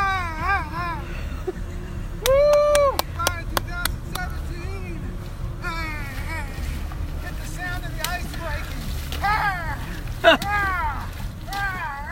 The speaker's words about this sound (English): If you guessed wading into an icy river, you were right. You heard me wading, very quickly, into the partially iced over New River in Giles County, Virginia on January 1st, 2018.